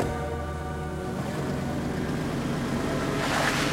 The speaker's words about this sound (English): The two men get in, and the car pulls away across the rain-soaked pavement.